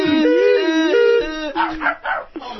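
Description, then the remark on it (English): A voice imitates a dog howling as the comedy bit 'Far Away Dog' in a European ambulance siren, its long tone wavering up and down like a two-tone siren, then breaking into a few short, choppy yelps near the end. “Far Away Dog in a European siren, in a European ambulance.”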